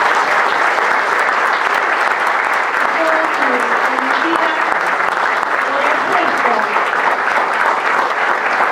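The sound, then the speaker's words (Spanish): A crowd in Villa Cazubi, Córdoba province, breaks into strong, sustained applause for the visiting governor, a dense, steady roar of clapping that stays loud for about nine seconds, with faint voices and calls mixed underneath. “Y les pido un fuerte aplauso para el señor gobernador.”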